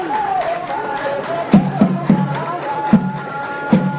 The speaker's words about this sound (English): Outside Gikondo Prison, on the outskirts of Kigali, inmates are dancing and singing for a crowd gathered for a Gacaca. The dancing and singing mask the terrible conditions there.